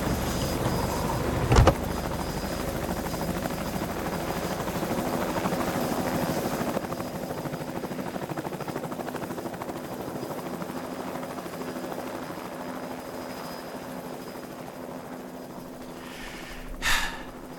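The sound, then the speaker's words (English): A helicopter's rotor drones steadily for the whole stretch, with a sharp click early on and a brief burst of noise near the end; no one speaks. “If we end up doing Christmas this year, I'm putting Cool Helicopter at the top of my list.”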